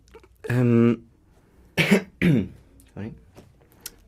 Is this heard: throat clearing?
yes